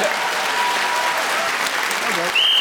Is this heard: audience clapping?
yes